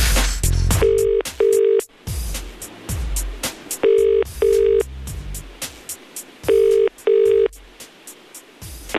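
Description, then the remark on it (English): Phone line ringing tone heard through a handset: three evenly spaced double rings, brr-brr, with clicky dialing and line noise at the start and between rings. No one speaks. The call is being timed and goes to an answerphone. “Let's see how long I can keep on the phone for.”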